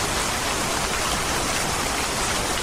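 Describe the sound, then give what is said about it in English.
A dense, steady roar of heavy rain pours down without a break during a forest fire, fairly loud, like a constant wash of hissing water with no voices. “You know, here we are in the middle of a forest fire and then it's raining buckets.”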